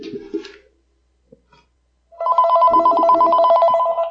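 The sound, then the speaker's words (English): A telephone rings loudly and steadily for about two seconds with a bright electronic trill for an incoming call, following a brief sound and a short silence; no one talks over it. “let's see if we actually have someone on the phone here.”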